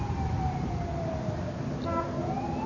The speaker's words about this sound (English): There's always a siren. Always a tragedy somewhere.